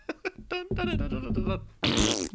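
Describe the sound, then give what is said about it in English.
A few short sputters give way to a long, loud, rippling fart, then a harsh, airy blast near the end, with no talking. “Yeah, and he got farted on.”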